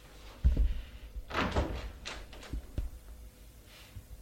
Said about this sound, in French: Elle entrebâille la porte.